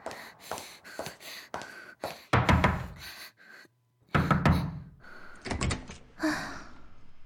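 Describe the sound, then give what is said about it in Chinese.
Loud, forceful knocking on a door, a series of sharp heavy raps in uneven bursts with brief pauses between, with no voices. “敲门不会温柔点吗？”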